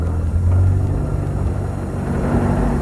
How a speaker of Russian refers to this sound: Какая-то машина тяжело пыхтя брала подъем высокого холма. Мадам Филиппа прижалась лбом к стеклу катафалка, а машина медленно карабкалась все ближе и ближе.